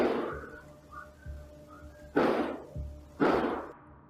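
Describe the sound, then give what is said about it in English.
Two loud, sharp bangs like gunshots ring out about a second apart, each with a short echoing tail, preceded by softer low thuds over a steady background hum, recorded by a surveillance camera at 10 p.m. at night on January 7th. “A half an hour earlier that night, at 10 p.m., the same surveillance camera recorded eight loud bangs, sounding like gunshots.”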